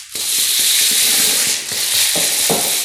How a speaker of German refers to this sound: Es zog ein Sturm auf. Es wurde immer dunkler und kälter. In der Zwischenzeit waren die Huskies sehr verängstigt, aber sie waren sicher in einer Höhle. Man hörte von außen den Hagel an die Höhle klopfen.